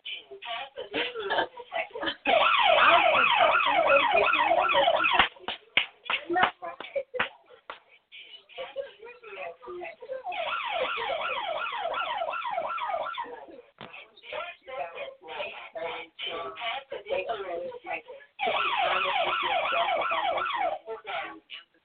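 An alarm goes off in three loud bursts of rapidly warbling, high-pitched electronic tones, separated by short pauses filled with soft clicks and shuffling.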